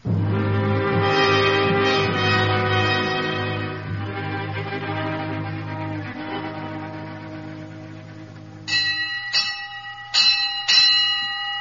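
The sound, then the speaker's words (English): A fire engine bell rings loud, its resonant tones hanging and fading before several sharp, separate clangs strike near the end. No voices. “We'll give him a ride in the engine and let him ring the bell.”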